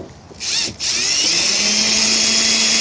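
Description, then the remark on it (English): A power drill puts screws back in, outdoors in South Louisiana on a cold, rainy day of about 35 degrees, with a loud, high motor whine: a short burst, a brief pause, then one steady run that holds to the end. Nobody speaks. “Okay, and now put the screws back in.”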